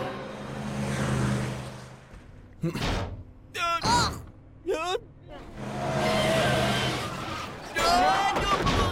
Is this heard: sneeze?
no